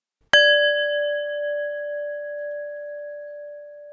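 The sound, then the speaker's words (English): A single clear bell, the cue to pause an MP3 player during an audio poetry walk, is struck once and rings out alone, its bright tone sustaining and fading very slowly over several seconds with no other sounds. “At the end of each of these instructions, you will be invited to pause your MP3 player at the sound of a bell.”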